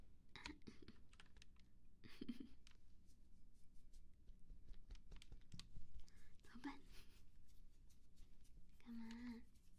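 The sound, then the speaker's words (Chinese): Irregular, uneven clacks of computer keyboard keys as a cat steps on them with its paws, fairly quiet, with a person speaking softly in Chinese over the clicking, telling the cat not to step on the keyboard. “你不要踩妈妈的键盘，嗯，键盘不可以踩。”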